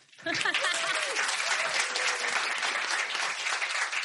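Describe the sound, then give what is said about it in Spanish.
An audience at a recorded event bursts into steady, loud applause as an audience member is invited to come up to the microphones, starting abruptly and holding an even, dense clatter of clapping, with a few faint voices and cheers mixed in early on. “Un aplauso.”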